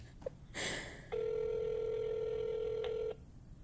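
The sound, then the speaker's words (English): A phone call connecting: a short click and a rustling burst, then one steady, mid-pitched ringback tone that holds for about two seconds before cutting off. No one speaks. “If he don't pick up and it goes to voicemail, he ain't your friend.”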